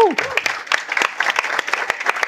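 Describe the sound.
An audience bursts into applause, a dense stream of many hands clapping at once with sharp irregular spikes, briefly overlapping a voice's falling tone at the start.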